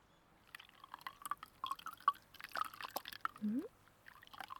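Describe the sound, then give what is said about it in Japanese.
Irregular splashes and drips as lukewarm water rinses foam off a person's face into a washbasin, quiet and intimate, with a brief rising murmur of a voice near the end. “それじゃあ泡を落としていくね。”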